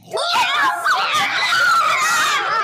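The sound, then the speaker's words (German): Monkeys at a zoo screeching in a loud, continuous chorus of shrill, overlapping calls that rise and fall in pitch, with no pauses for the entire stretch. “Wir sind jetzt in einem Zoo. Hört ihr da? Da sind Affen.”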